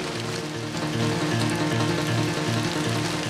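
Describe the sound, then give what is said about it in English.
Steady rain falls in a continuous, fairly loud hiss, with a low droning hum running underneath and no voices. “Misarv walks into the rain.”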